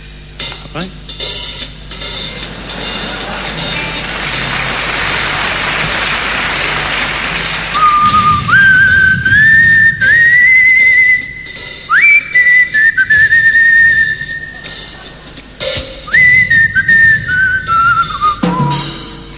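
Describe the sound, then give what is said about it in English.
A steady hiss like sizzling or rain fills the opening seconds, then an old man whistles a wandering tune to accompany himself in two clear phrases with a brief pause between them. “and he began whistling a tune this time to accompany himself.”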